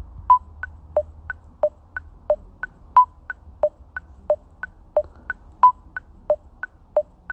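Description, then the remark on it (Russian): An electronic metronome set to 90 beats per minute ticks alone with short, even beeps that alternate between higher and lower pitches, pulsing steadily in subdivided beats with a brighter accent recurring every few seconds. “И теперь запускаю метроном.”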